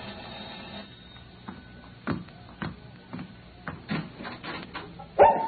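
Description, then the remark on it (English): Dogs bark at a little house in the eastern section of Denver, in short, irregular bursts, several yaps scattered across a few seconds, with the loudest bark coming right at the end and no talking. “I was settled in the eastern section of the city in a little house with my dogs.”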